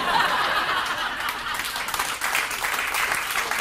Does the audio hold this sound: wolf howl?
no